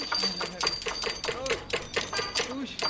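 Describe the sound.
Small rickshaw bells ring over and over in quick, bright metallic dings, a steady high tone lingering beneath them while voices murmur in the background.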